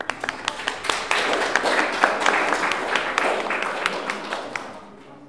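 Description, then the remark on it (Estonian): A crowd applauds steadily, many hands clapping in a dense, lively patter that holds for several seconds before tapering off and fading out at the end, at an event with blind artists in Haapsalu, honouring an artist whose work won a gilded silver medal in Milan. “veel selline uudis, et äsja tuli tagasi tema töö Milanost ja võitis seal kullatud hõbemedali, et talle aplaus.”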